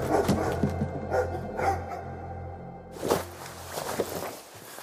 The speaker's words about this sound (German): Irgendetwas poltert im Hundeverschlag. Da war es wieder. Ein markerschütterndes Jaulen und Kratzen.